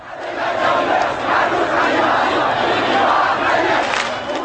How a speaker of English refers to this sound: Many in the crowd chanted slogans to decry President Ahmadinejad.